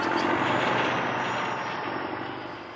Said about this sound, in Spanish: Y ahí estaba de nuevo el tractor, sembrando el temor entre los animales del maizal. Se movía de un lado a otro, y ellos también, siempre alejándose del peligro.